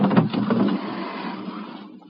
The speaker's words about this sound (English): Mama, thunder. Is it the cannon? Yes, ma'am.